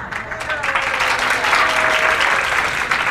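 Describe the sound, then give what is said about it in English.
Steady audience applause fills the whole moment, a dense wash of many hands clapping at an even, sustained loudness without breaks. “And yes, and the pity applause here.”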